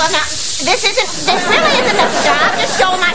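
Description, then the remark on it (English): Several people hiss together at an induction ceremony, imitating cobras, a loud, sustained, overlapping hiss lasting a few seconds, with bits of voiced, chatter-like sounds mixed into the noisy chorus. “Cobras, let the hiss begin!”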